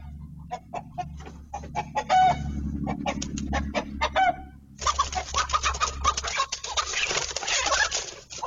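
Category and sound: bird, rooster clucking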